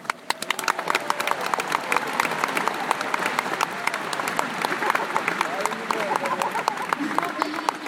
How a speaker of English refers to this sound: This is a monumental moment for us all, and we all deserve a huge round of applause.